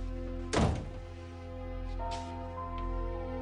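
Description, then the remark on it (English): A man shuts a door in a woman's face with a single heavy thud, followed by a few seconds of quiet room tone with a low steady hum and no voices. “He shuts the door in her face, then turns around and leans against it.”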